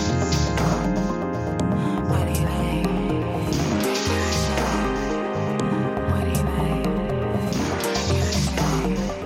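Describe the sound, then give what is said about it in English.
Dense experimental music with a steady low pulse and shimmering layered tones, full of gurgling, bubbling textures that make it feel submerged, as if heard from underwater. No one speaks. “It kind of sounds like you're underwater or you're near something that's burbling and coming to the surface.”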